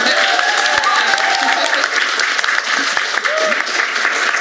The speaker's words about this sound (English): Thank you so much to my remarkable panel of ridiculously talented creatives. This is where you applaud them, please.